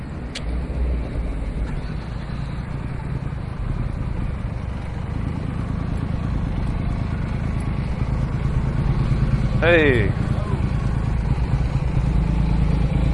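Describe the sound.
Steady roadside traffic rumbles throughout at a bus stop, with vehicles passing and a brief squealing whine near the end, like a bus's brakes. A single short spoken word is heard early on.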